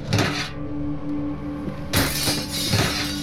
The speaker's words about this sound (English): He smashed through the window with a garbage can and stepped inside.